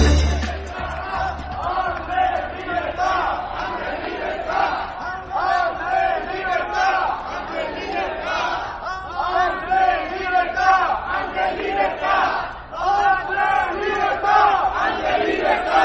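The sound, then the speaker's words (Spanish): A crowd in Jaén shouts and chants in support of Andrés Bódalo, Jaén en Común councillor and SAT trade unionist, many voices overlapping in loud, rhythmic bursts that keep going steadily for the whole stretch without any pause. “Estamos escuchando los gritos de apoyo que está recibiendo el concejal de Jaén en Común y sindicalista del SAT, el también número uno por Podemos en la provincia de Jaén al Congreso, Andrés Bódalo,”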